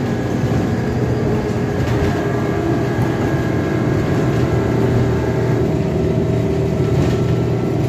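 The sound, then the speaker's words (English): A steady, loud interior drone of a nearly empty city bus on the move along Arlington Boulevard: deep engine rumble and road roar, with faint whining tones above, continuous throughout and no voices. “Just us on the bus. Nobody else on the bus, just us.”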